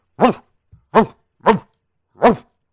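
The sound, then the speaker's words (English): Four loud dog barks at a steady, unhurried pace, each sharp and harmonic, with a faint low grunt between the first two and no talking. “I think he had heard the dog bark so many times that he didn't take it seriously anymore.”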